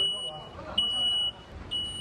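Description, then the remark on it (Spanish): A high, steady electronic beep sounds in short repeated tones, announcing the opening of a shopping centre at 10 a.m. at Christmas time, ringing over a low murmur of about 100 people queuing to enter. “Vaya tela, me quedo loco con el pitidito este que anuncia casi las campanadas o los cuartos para entrar a comprar.”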